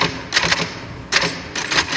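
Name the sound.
typing on a keyboard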